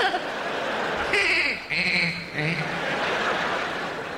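A goat bleats in two or three quick, wavering cries lasting about a second and a half, fairly loud over a steady background hiss.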